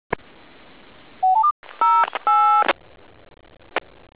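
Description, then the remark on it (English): Telephone keypad dialing tones over a hissy radio channel: a quick run of rising beeps, then several longer, loud tone bursts, bracketed by sharp transmission clicks. “ДТМФ отключен.”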